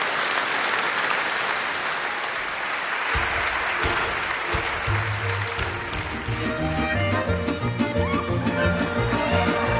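Loud, sustained audience applause fills the whole recording, a dense wash of clapping, while instruments begin playing underneath it partway through, with tonal notes rising out of the noise.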